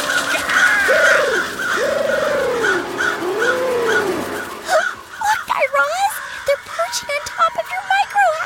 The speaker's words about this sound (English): Wait, Guy Raz, over there, look! What? A flock of crows!